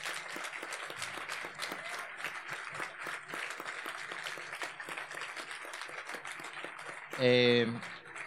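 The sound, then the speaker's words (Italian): A crowd at a festival in Sardinia applauds steadily for about seven seconds for the people behind the festival, a dense, even wash of clapping, before a short, loud tonal burst cuts in near the end as the clapping thins. “Fategli un grande applauso.”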